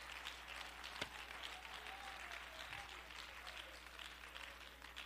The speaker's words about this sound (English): Hallelujah, hallelujah. Let's clap our hands and give praise to our God.